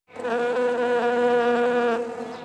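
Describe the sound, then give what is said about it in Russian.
A bee laden with nectar buzzes steadily in flight on its way to its hive, a loud drone with a rich harmonic hum that wavers slightly in pitch for a couple of seconds, alone with no voices. “Вот пчеле пора в дорогу. Набрала нектару много.”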